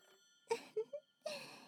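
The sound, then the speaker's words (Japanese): An old telephone bell rings in a few short, rattling bursts followed by a longer sustained jangle, fairly quiet and heard alone without any talking, while no one picks up the receiver. “受話器を取りもせずじっと見つめて。”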